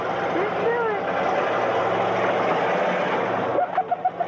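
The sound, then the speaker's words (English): The monster truck Bigfoot, driven by Chandler, roars loudly as its huge tires crush two abandoned cars in a farmer's field outside St. Louis in April 1981, a dense, grinding wash of engine noise and crunching, shattering metal, with nearby kids giggling in the background. “Some nearby kids are heard giggling as the cars crunch and shatter under the weight.”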